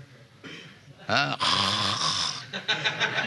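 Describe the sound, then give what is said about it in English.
A man mimics loud snoring with his voice, imitating people in American yoga societies who close their eyes to meditate but snore, making a rough, rasping snort that starts abruptly and rattles on for a couple of seconds, forceful, after a moment of quiet room noise. “They close their eyes, and I do not know what they are meditating, but I have seen they are snoring.”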